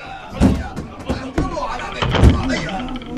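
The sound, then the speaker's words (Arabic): Heavy blows pound against the wooden door of Dar al-Rida as horsemen smash it open, three or so loud, booming crashes spaced about a second apart, with agitated shouting voices underneath. “أيها الفرسان، اهجموا على دار الرضا وحطموا الباب، ادخلوها بخيولكم.”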